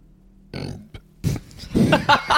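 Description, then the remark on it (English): A loud burp after drinking a fizzy drink: a short gulping croak first, then a longer rumbling belch that rasps and gurgles for about a second before breaking off. No one speaks. “Do you ever have that when you do like a burp and it comes like out a fizzy eyes?”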